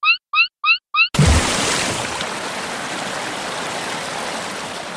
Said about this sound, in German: Und ich drehe am Wasserhahn.